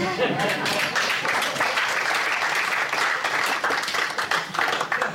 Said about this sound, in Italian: Anche qua mi hai fatto un applauso io.